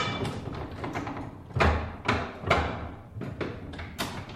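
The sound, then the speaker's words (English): An old printing press running, with a steady mechanical clatter broken by heavy, sharp clunks that repeat at a rough, uneven rhythm about every half second. No one speaks. “Here's an old printing press.”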